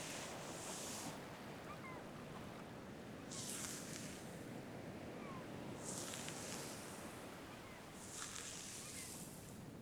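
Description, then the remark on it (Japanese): Ocean waves break on a shore in a steady rhythm, about four hissing surges rolling in over a constant low roar of surf, with no voices present. “波の音と鳴き声、落ち着く？”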